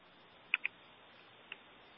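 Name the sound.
typing on a keyboard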